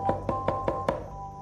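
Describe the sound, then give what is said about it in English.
Five quick, evenly spaced knocks on a door, crisp, followed by a brief quiet stretch with a faint steady tone lingering in the background. “Somebody at the door.”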